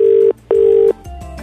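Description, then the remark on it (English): An outgoing phone call to a flatmate rings out with a steady, fairly loud double-burst ringback tone: two matching beeps with a short gap between them, followed by quieter line noise and faint background sounds. “Let's phone my flatmate.”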